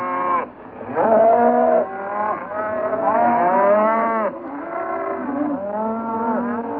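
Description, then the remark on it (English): Oxen lowing in a steady overlapping chorus, several deep, drawn-out moos rising and falling in pitch, loud and continuous for several seconds with no talking. “After 7 days, the first water was sighted. The oxen smelt it first.”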